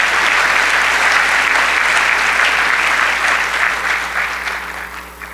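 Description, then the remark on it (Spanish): A church crowd claps for the Lord in a dense, continuous burst of applause, loud throughout and easing slightly toward the end, with no voices standing out. “Dele un aplauso al Señor con gozo.”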